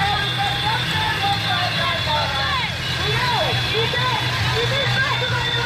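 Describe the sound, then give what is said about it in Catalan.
Tractors of Revolta Pagesa hold a steady, deep diesel rumble throughout as they join marches of teachers and professors heading to a demonstration in central Tarragona, while the noisy crowd of marchers shouts and calls over it, with occasional rising and falling whistle-like cries. “Sentim els tractors de Revolta Pagesa com s'incorporaven a les marxes que es dirigien cap a la manifestació.”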